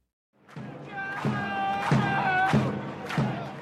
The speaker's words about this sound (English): John Adams has been banging the drum, literally, for the Cleveland Indians, lugging his 26-inch bass drum to home games for 47 years now.